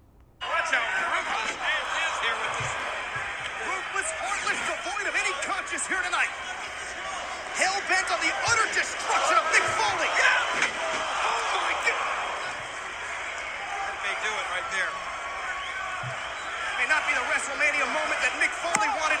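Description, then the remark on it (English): A wrestling spot in which Mick Foley is bulldogged head-first into a barbed wire bat: a few sharp slamming impacts ring out over a loud, continuous arena crowd roar, with indistinct voices mixed into the noise. “So Mick Foley, the spot you just heard was Mick Foley getting his head bulldogged into a barbed wire bat, and chair shots to the head had previously occurred here.”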